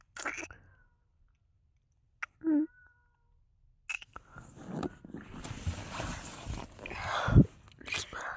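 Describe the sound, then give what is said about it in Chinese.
A single short cat meow sounds clearly from a cat at someone's feet, then gives way to rustling, shuffling and faint hushed whispering. “猫一直在我的脚边叫，我妈不会过来看吧？”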